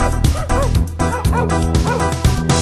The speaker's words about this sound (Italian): È la chiesa che li fa abbaiare.